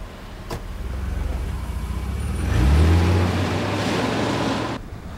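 Steady low engine rumble and road noise from inside a moving expensive car, swelling briefly as the engine revs and shifts pitch, then cutting off near the end; no one speaks.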